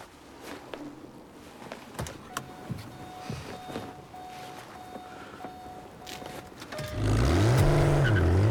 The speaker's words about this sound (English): steps aside as the car accelerates away along the dual carriageway into the night.